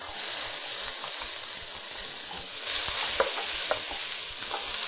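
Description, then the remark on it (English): Garlic and yellow bell pepper sizzle in a hot pan, a steady bright hiss dotted with small pops and crackles that swells louder partway through, with no one talking. “And now we're going to add our garlic. Our bell pepper.”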